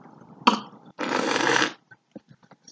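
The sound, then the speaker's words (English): A sharp click, then a loud, airy slurp lasting under a second as Riesling wine is sucked from a glass with air, followed by a few faint ticks and smacks. “You'll be hearing that slurp-a-derp all through the night.”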